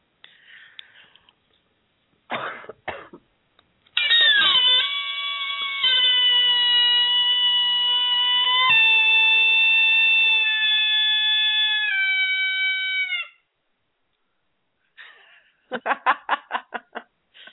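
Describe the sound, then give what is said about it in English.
A coyote game call blown loudly and playfully, just to make sound: a few short yips, then a long, steady, high-pitched howl lasting about nine seconds, ending with a burst of rapid, quavering yips. “Is that your coyote call? Yeah, that's a coyote call.”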